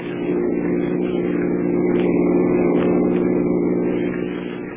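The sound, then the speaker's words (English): A car engine hums steadily while driving in the city, a loud, continuous low drone with a slight rise and fall in pitch and no voices over it. “Go on, Henry. Pass that car in front.”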